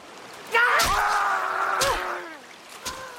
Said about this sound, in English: Etain dismounts and hauls the Roman up by his hair. Quintus closes his eyes and turns away. Etain pulls out the axe and hacks into the man's neck.